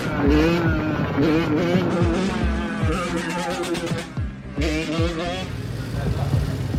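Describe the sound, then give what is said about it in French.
Motorbike engines ridden by youths in an illegal urban motorbike rodeo in France rev loudly, their pitch repeatedly climbing and dropping in throaty bursts, with a voice faintly audible underneath the roar. “Sur Internet, les images amateurs de ces jeunes à moto sont légion. Une pratique bruyante, illégale et dangereuse.”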